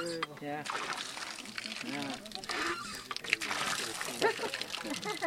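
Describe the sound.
Water pours and splashes steadily from a pump for several seconds, a continuous close gushing sound, with voices talking faintly underneath.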